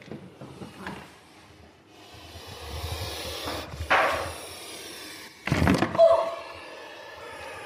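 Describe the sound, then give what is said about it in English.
A puff adder in an opened cage at Liverpool's venom unit gives sharp, breathy hissing puffs, two loud bursts standing out over low rustling and knocking, with a softer puff before them and faint scraping between. “to record the puffs of a puff adder”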